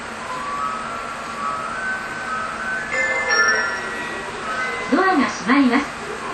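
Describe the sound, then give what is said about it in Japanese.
A commuter train bound for Seibu-Yuenchi rumbles steadily, heard from onboard, a constant droning roar with faint whining tones, while a voice briefly speaks over it near the end. “この電車は西武遊園地行きです。”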